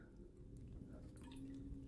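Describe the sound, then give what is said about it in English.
A quiet sip of water: soft wet slurping and a small swallow, with faint liquid clicks over a low background hum and no talking. “A sip of water, and away we go.”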